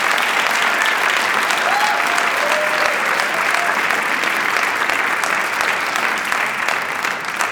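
A crowd applauds steadily, a dense wash of many hands clapping at an even, fairly loud level that holds throughout with no pauses or speech over it.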